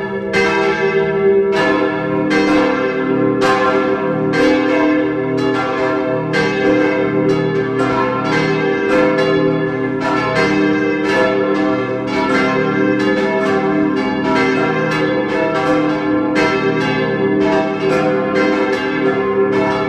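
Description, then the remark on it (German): Several large bells of the parish church in Mattighofen, Upper Austria, ring together at 12 noon in a continuous, overlapping peal, strikes landing in a steady rolling rhythm with long ringing overtones, loud and full throughout with no talking. “Es ist 12 Uhr. Sie hören die Glocken der Pfarrkirche Mattighofen in Oberösterreich.”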